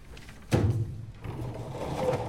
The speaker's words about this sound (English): In the autopsy room, she pushes the corpse into a cadaver drawer.